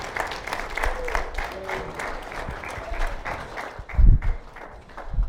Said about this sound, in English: Do you believe the word of God today? If you do, give the Lord a hand clap of praise, for he is worthy.